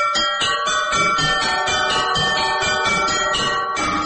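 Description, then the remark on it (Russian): Church bells ring together in a loud, continuous peal from the bell tower of the Trifonov Monastery, played by Vyatka bell ringers as the evening service is about to begin, overlapping strikes blending into a sustained metallic clangor, with no voices. “Вятские звонари.”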